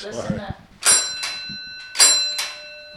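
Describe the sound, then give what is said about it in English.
A solid brass doorbell, boarded up from 1940 to 1965 and still in place, is struck twice, each ring bright and metallic with shimmering high overtones that linger and fade. A voice talks briefly before the first ring. “And that if you ring the doorbell, that means you're going to come back. Still ringing.”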